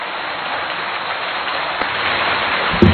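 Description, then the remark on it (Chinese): Dense, steady applause from a large crowd thanking Lu Junhong for his Buddhist talk, a continuous crackling wash of many hands clapping at once for the full three seconds, with a brief louder knock near the end. “让我们再次用最热烈的掌声，感恩卢军宏台长为我们带来的精彩开示。”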